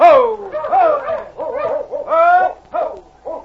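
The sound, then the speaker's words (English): A dog yelps and whimpers in a rapid series of short, pitched cries, some sliding up or down, loud, with brief pauses between bursts, outdoors in Dawson as a strong wind rises and snow falls. “You go on and try to get that dog back here.”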